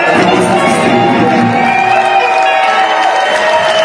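A concert crowd cheers and applauds the person who put the show together, loudly and continuously, with whoops and shouts rising over a dense, steady wash of clapping throughout.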